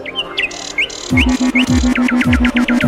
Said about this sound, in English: They call it birdsong. Just a random cacophony of squawks and chirrups. No real tune to speak of. What a racket!